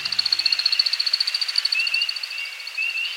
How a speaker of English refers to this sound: As the sun sets on a northern Midwest forest, we hear a most peculiar sound. It's an American woodcock aloft on a courtship flight.